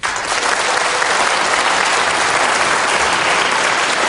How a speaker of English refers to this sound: So how many people in the audience, again, indicate with your applause, how many people think that item number one is the fiction, is not true?